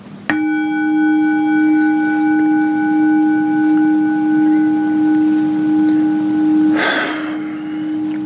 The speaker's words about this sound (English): Solstice 2023. It is customary to ring a bell on the solstice, so let me begin with that.